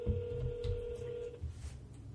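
A phone ringback tone plays as one steady, buzzy electronic burst lasting just over a second, then cuts to silence with low background rumble, as if heard through a handset on an outgoing call.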